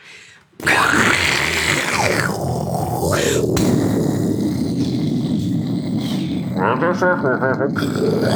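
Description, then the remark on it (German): A person loudly imitates a tiger, producing a long, rough, hissing roar that lasts several seconds, with growly pitch shifts and a raspy ending. “Nee, das war jetzt ein Fauch oder Tiger.”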